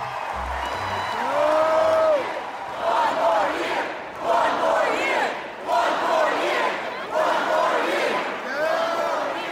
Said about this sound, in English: When it came time for Bridges, the crowd made one resounding plea.